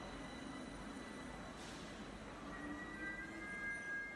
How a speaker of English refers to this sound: By the way, I am at the subway.